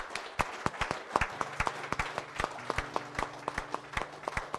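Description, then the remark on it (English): An audience claps hands in praise of God in the morning, a steady stream of sharp, overlapping claps from many people, with faint low tones sustaining underneath. “Would you give God a hand clap of praise this morning?”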